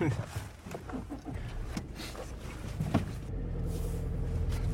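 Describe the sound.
A steady low rumble fills a moving car cabin, with scattered knocks and rattles and indistinct voices in the background. The car is a dad's car, messy inside, driving to a nearby office while it rains a little.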